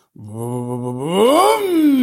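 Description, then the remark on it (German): A voice imitates a convertible car's engine that would not hold its idle speed while waiting at a traffic light: a steady low hum that swells upward in pitch and loudness, then sinks back down, with no other sounds around it. “Das heißt, also der hat die Leerlaufdrehzahl nicht gehalten.”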